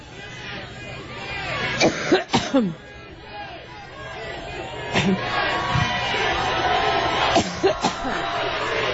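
A woman coughs in a prolonged fit, sharp harsh bursts recurring unevenly over several seconds, against a steady murmur of crowd chatter in the background.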